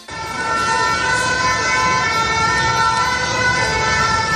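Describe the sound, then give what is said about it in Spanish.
Ambulance sirens wail steadily and loudly through a city street in France during protests against pension reform. Their sustained tones are layered over a constant rumble of traffic, with no voices heard. “Contenedores quemados, mobiliario urbano destrozado, sonido de ambulancias, es el escenario que se repite estos días en diferentes ciudades de Francia.”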